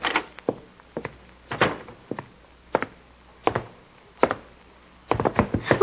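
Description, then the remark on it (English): A door shuts as someone is pushed out of it, amid a scatter of hard wooden thumps and knocks, irregular, ending in a quick cluster of bumps, with no voices. “Dropped out of my hand when she pushed me out the door.”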